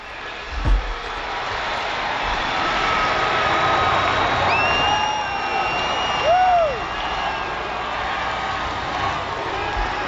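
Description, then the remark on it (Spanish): A crowd of thousands of Americans cheers and applauds in a steady, dense roar on a special night of celebration. Scattered whistles and shrill calls rise above the wash of clapping and voices throughout. “Este es el ambiente, estos son los aplausos.”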